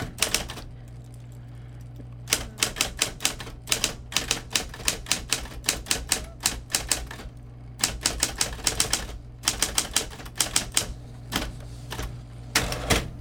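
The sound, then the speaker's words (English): Rapid bursts of sharp key strikes on a Sears-branded electric typewriter made by Smith Corona, in irregular clusters, with brief pauses between runs, over the machine's steady low electric motor hum. No one speaks. “And can we hear some of what it sounds like when you type on that, and sure.”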